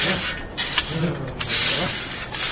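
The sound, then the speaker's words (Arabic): Steady gritty scraping of an axe digging into the ground, with a few duller strikes every second or so as the axe hits something hard under the ground, moderately loud throughout. “لقد ارتطم فأسي بشيء صلب تحت الأرض، سأخرجه من أسفل.”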